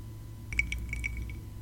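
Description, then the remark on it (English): Ice cubes clink against a drinking glass as someone takes a sip of their drink: a quick cluster of bright, ringing taps over about a second, over a low, steady background hum, with no one speaking. “And I hear the ice cube in your glass”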